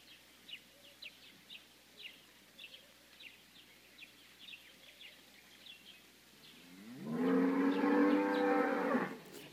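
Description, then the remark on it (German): A cow lets out one loud, drawn-out moo near the end, after several seconds of quiet outdoor ambience with faint, scattered bird chirps. “Ich habe euch ja gesagt, Tee trinken und Kühe.”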